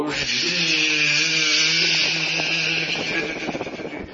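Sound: dentist's drill whirring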